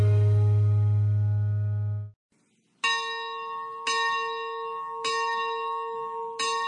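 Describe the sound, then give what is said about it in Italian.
Church bells ring loudly in the city of Bolzano: a deep, droning peal fades out, then after a short pause a brighter bell strikes four times at a slow, steady pace, each stroke leaving a shimmering ring. “In mezzo ai suoni e ai rumori nuovi, legati al traffico e ai cantieri, le città conservano una propria riconoscibilità sonora. Ad esempio, attraverso le campane.”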